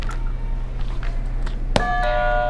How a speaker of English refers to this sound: All right. That sounds like a doorbell, doesn't it?